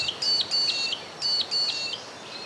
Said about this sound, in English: there are some of them that I've definitely seen before, like the mudlark, the peewee, or the magpie lark. It's all the same bird.